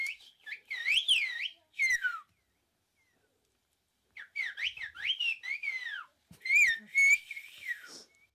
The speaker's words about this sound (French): la force du sifflement, c'est qu'il porte beaucoup plus loin que la voix